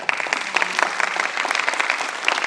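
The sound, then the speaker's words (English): A group of people applauding at a CAC meeting to thank the outgoing Westwood Park representative for her service, a steady burst of many overlapping claps at even loudness with no one speaking, lasting a few seconds. “will allow applause for that.”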